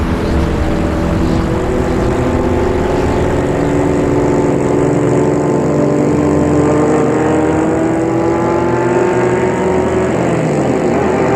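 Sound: car engine running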